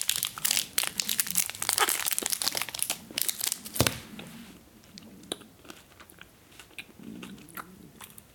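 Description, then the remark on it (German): Someone eats Toblerone chocolate: a wrapper crinkles loudly in dense, crackly bursts for about four seconds, then quieter crunchy bites and chewing follow sporadically. No one speaks. “Tut mir leid, ich muss die Schokolade kurz essen.”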